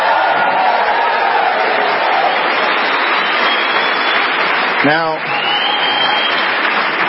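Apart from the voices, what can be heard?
audience applause and cheering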